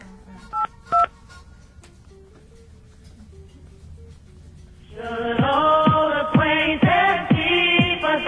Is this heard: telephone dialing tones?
yes